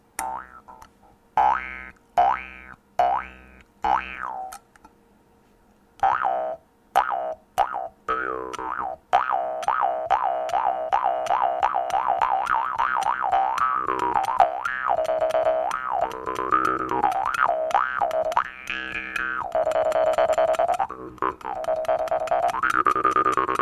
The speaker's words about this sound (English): That's about all there is to the Jew's harp.